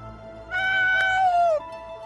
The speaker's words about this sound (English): And just then, a pack of coyotes began screeching, howling. They were so close, Paul thought they were standing right next to him.